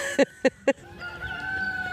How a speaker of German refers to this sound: Und ein Hahn, der kräht. Davon haben wir mehrere.